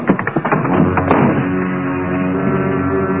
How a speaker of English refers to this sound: Half a dozen bullets smashed through the window.